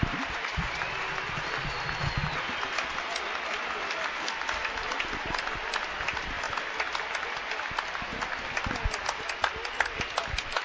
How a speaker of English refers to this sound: Let's listen to this crowd.